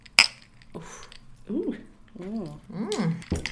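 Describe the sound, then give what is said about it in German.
A single bright, ringing clink of drinking glasses tapped together in a toast, followed by a couple of people speaking briefly. “Prost. Cheers.”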